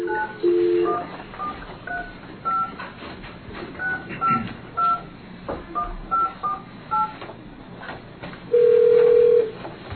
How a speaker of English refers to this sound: Dial 9. And then one.